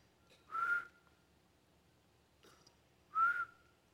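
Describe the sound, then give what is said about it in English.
Two short, bright whistles sound a few seconds apart, each a quick rising note that fades, with a faint softer chirp between them and no talking. “and he would be working out in the yard and going around, and every so often, he would whistle.”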